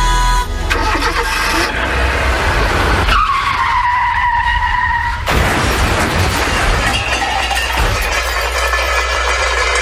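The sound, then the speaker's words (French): A car's engine roars, then tires let out a long, loud screeching skid before a crash with shattering debris, followed by lingering rattling and noise. No one speaks. “Chérie, je viens d'abîmer la voiture.”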